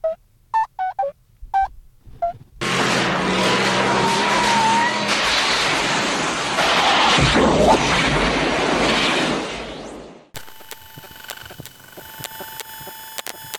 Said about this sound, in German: Was war denn das? Wir müssen irgendwie die Kontrolle über das Auto verloren haben.